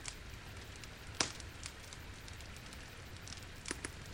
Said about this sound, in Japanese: あ、焚き火ずいぶん小さくなってしまいましたね。体も温まりましたし、そろそろ乙姫庵に向かいましょうか。